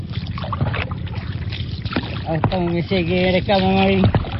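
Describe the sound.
Oars dip and splash softly and rhythmically in water as a farmer from the village of Ayak rows a small boat along the Brune river in central Borneo, Indonesia; partway through, a man's voice joins with sustained, melodic tones over the steady water noise.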